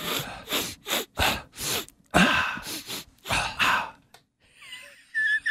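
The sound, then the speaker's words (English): A rapid series of loud, wet nasal sniffles, about eight sharp snorting breaths in quick succession, followed by a few faint squeaky noises near the end. “Not flushing the toilet versus sniffles.”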